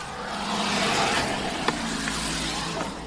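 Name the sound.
getting into a car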